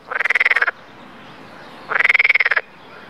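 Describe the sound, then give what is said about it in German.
A frog croaks in two rapid, rattling bursts, each a quick train of pulsed calls, separated by a short pause. The calls are loud, with only faint background noise between them. “Und da hüpfte aber einmal ein Frosch ins grüne Gras.”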